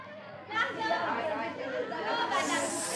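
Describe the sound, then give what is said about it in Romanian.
Children playing noisily outdoors on a vacant lot, a steady jumble of overlapping chattering voices with no clear words, joined near the end by a brighter hissing wash. “Mergând așa, sprijinit într-un toiac de corn, care îl mai ajuta să-l poarte pe șarpele cel nerecunoscător, auzi larmă de copii ce se jucau pe un maidan.”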